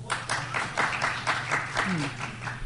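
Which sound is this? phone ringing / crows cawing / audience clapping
audience clapping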